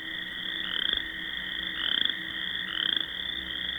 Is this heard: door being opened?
no